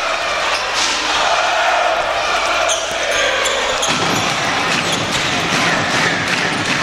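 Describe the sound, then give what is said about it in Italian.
A basketball thuds repeatedly on a hardwood court as Pinkins puts the ball on the floor and it is handed to Gray with 1 minute 29 left, the dribbles partly buried under a loud, steady arena crowd roar with faint voices mixed in. “Pinkins vola a canestro, mette palla a terra, consegnata nelle mani di Gray, 1 minuto e 29 alla fine.”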